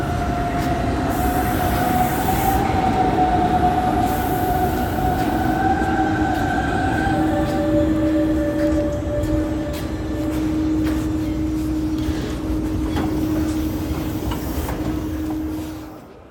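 A Hamburg S-Bahn commuter train on line S1 toward Wedel, next station Blankenese, rolls along steadily with a loud, continuous rumble, overlaid by sustained metallic wheel squeals and tones that shift pitch, fading slightly at the end. No one speaks.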